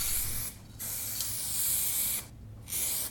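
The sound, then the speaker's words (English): An aerosol spray paint can hisses in steady bursts, with two brief pauses breaking the spray into three sustained blasts. “Now, pick up the cans. Pick up the cans. And spray.”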